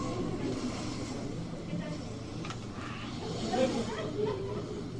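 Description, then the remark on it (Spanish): Wind howls steadily on a calm night for several seconds, a dense hissing roar with faint moaning tones rising briefly toward the end, no voices over it. “Después de eso, la noche continuó serena y tranquila, solo con el aullar del viento.”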